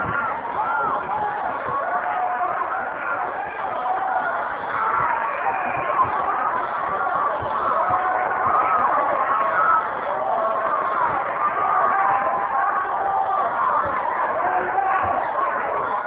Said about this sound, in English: I want you to be aware that this shouting goes on continuously. It does not stop.